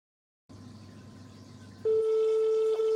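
A hissy, humming phone line opens up as someone calls a phone number, then a loud, steady telephone tone starts and holds unbroken to the end, the kind heard while placing an outgoing call.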